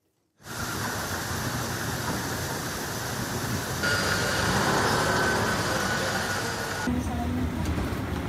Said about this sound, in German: Erstmal könnte man an Wasserrauschen denken, dann wird klar, ein bisschen Verkehr ist da noch. Was hören wir hier? Ja, eigentlich kann man sagen, wie Sie hören, hören Sie nichts, denn diese Aufnahme ist, wird als Stille bezeichnet.